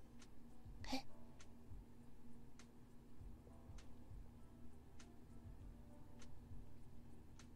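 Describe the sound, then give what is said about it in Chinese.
A clock ticks in slow, regular clicks, fairly faint, over a steady low electrical hum, with one louder thump near the start and no voices. “这样有时钟的声音吗？”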